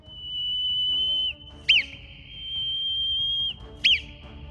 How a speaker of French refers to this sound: Maintenant que vous avez compris, écoutez bien le message et décryptez-le. Le premier sifflement. Le deuxième. Le troisième.